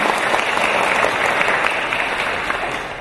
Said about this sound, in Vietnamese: Xin cho một tràng pháo tay về hội duyên năm nay.